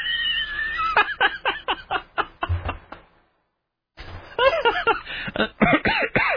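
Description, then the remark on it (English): Someone coughs in a rapid run of short bursts, falls silent for a moment, then breaks into another harsh, repeated coughing fit. “Where's that cough button when you need it?”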